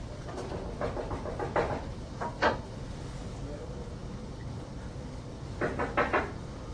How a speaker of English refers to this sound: Knock at the door.